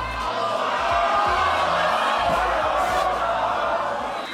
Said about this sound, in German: Der Buhruf ist womöglich das Gesündeste